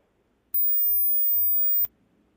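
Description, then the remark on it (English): A single steady, very high-pitched 8,000-hertz hearing test tone holds for just over a second, starting and stopping abruptly with faint clicks, against near silence and no voices. “So here's the 8,000-hertz tone.”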